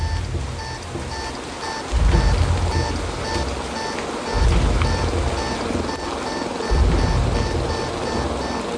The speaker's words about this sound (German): Der Regen prasselte erbarmungslos auf uns nieder, durchtränkte unsere Kleidung binnen Sekunden und sickerte durch bis auf die Haut.